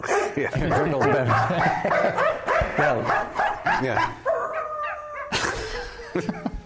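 Several dogs in an advertisement bark loudly and rapidly in pitched, rhythmic bursts that form a marching melody, with a few held, howl-like notes near the end before a final sharp bark.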